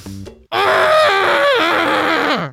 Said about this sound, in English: That was my scream. That was beautiful. And I only burst two vessels in my eye.